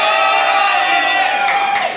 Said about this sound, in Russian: Вы кричите погромче, бабло забывайте.